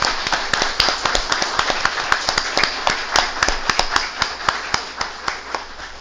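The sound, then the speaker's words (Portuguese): A group at a legislative session claps hands together after a bill is approved, a steady flurry of sharp, overlapping claps lasting several seconds at moderate loudness, with no voices over them. “Presidente, dá para bater umas palmas por isso?”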